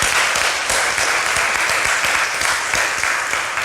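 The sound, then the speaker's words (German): An audience applauds after a talk, a dense, even wash of many hands clapping at once with no voices on top, holding the same loud level for the whole stretch. “Ja, erstmal herzlichen Dank für den Talk und einen großen Applaus bitte.”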